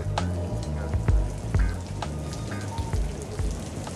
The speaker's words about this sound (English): It was during one of those summer rains.